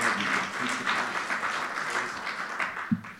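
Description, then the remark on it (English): An audience applauds steadily, a dense, even wash of many hands clapping at once that holds at a fairly constant loudness from start to finish, greeting a minister as he comes forward. “Let's give him a good hand clap as he comes.”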